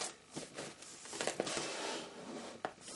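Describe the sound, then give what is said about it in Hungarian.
Soft papery rustling as book pages are turned to find a passage, with a few brief crisp flicks and crinkles over about three seconds, no voices. “Igen, megpróbálunk lapozni.”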